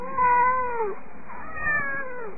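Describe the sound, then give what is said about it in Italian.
Four cats meow together in long, drawn-out, mournful funeral wails at the foot of a horse chestnut tree, their voices rising and falling and overlapping, clear with no talking. “Intonarono un miagolio funebre.”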